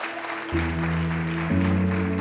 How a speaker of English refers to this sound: Oh, you are in the, clap for this guy. He's in the spirit.